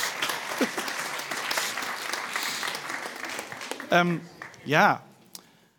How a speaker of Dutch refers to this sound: Oké, nou, bedankt voor deze battle. Was het een battle? Ja, toch? Applaus voor deze twee battelaars.